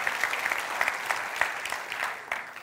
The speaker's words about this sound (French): Est-ce qu'on peut applaudir tous ceux qui ont des initiatives de dire, moi, je vais me lever et je vais faire une différence?